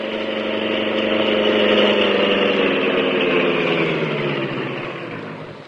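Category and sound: vehicle, car engine idling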